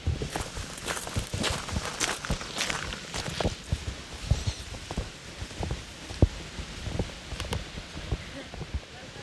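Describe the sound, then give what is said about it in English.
Footsteps wander around Dolly Parton's childhood home across an outdoor surface at an unhurried, slightly irregular pace, with occasional sharper scuffs over a steady background hiss and faint, indistinct voices. “and sort of wandered around for a bit.”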